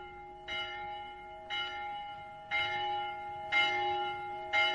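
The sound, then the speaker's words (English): A large town hall bell tolls five times at a steady, unhurried pace, each heavy stroke blooming over a continuous resonant hum. No voices are heard. “Now, woken at last by the out-of-bed sleepyhead, Polly put the kettle on town hall bell.”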